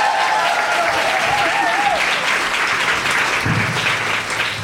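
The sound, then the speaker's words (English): A large audience at a show cheers and applauds loudly and continuously as a guest is welcomed to the stage, a dense wash of clapping with whoops and shouts rising over it, sustained throughout without a break. “There is nothing more terrifying than being in the loo and hearing the audience cheering and knowing why they're cheering.”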